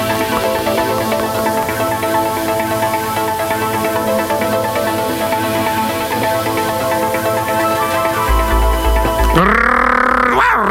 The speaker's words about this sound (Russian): Голосил пес Ройса, носясь по заднему двору. «Рвов! Вов!»